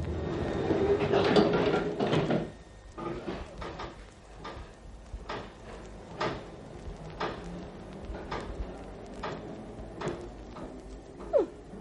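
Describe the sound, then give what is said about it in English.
A loud rush of sliding train doors shuts at the start, then a series of rhythmic clunks and rattles as the carriage pulls away at night, with a brief squeal near the end. “Is this our train”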